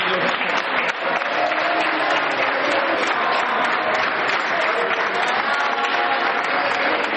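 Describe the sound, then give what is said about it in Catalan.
Steady, dense applause from a large crowd in Calella during the 9 November 2014 participatory vote, people clapping as others entered, loud and continuous for the whole stretch, with a faint murmur of voices mixed into the clapping. “Van començar a aplaudir ells perquè entraven i nosaltres pel rebre.”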